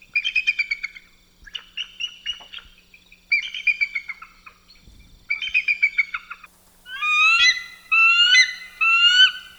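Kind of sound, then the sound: bird, bald eagle call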